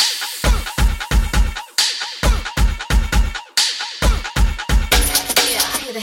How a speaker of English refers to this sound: Let me get a soul clap.